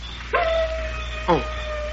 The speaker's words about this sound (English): Oh, listen. Darn wolf.